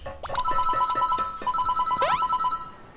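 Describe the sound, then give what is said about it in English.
A warbling electronic tone pulses rapidly in bright, even beeps, with a shimmering upward sweep partway through, a looping video game portal effect for a randomly appearing portal that teleports the player to Andy's house, with no voices. “Now, this weird thing that you're hearing is a portal, which will teleport you to Andy's house.”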